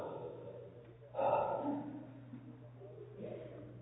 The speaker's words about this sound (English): Take a deep breath, everybody.